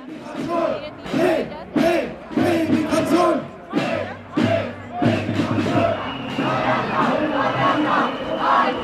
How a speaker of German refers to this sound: Mehrere tausend Menschen stellten sich den Rechtsextremen entgegen mit Luftballons und Sprechchören.